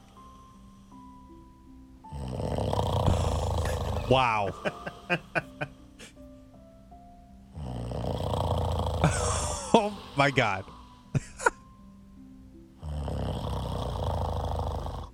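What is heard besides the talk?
loud snoring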